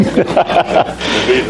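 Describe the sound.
A person imitates a Rottweiler's growl, giving a short series of rough, throaty pulses that end in a longer rasping rumble, loud.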